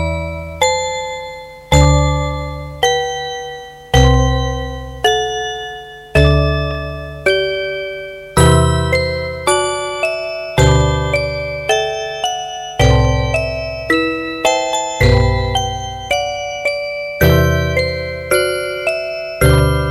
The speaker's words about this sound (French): Deux jours plus tard, le téléphone sonne. Le domestique décroche.